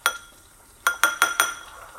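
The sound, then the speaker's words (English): A bowl of dissolved powder clinks as it is tilted: one ringing clink, a pause, then four quick bright clinks in a row, fairly clear, with no talking. “If you tilt the bowl, you can see it's at the bottom.”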